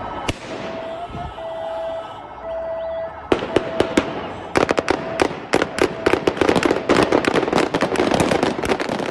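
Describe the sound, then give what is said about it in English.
Taliban gunmen fire shots into the air to disperse a crowd of about 70 protesters, mostly women, outside the Pakistani embassy. The shots crack out in rapid, uneven bursts, sharp and loud, after a steady high tone hums over a murmuring background for the first few seconds. “To disperse the crowd, the Taliban gunmen fired into the air.”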